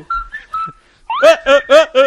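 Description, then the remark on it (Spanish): A person whistles a few short, clear notes, then breaks into four rhythmic, voiced vocal bursts that sound like a playful sung or laughing imitation. “Mi silbido es autóctono.”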